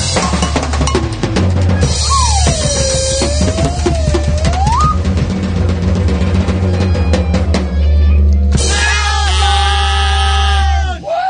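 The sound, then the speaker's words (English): Loud rock music with heavy bass plays throughout, and near the end a buzzy, reedy duck call, played by a radio show host, rings out over it, a sustained quacking honk that wavers slightly in pitch for a few seconds. “It's a duck call, yeah.”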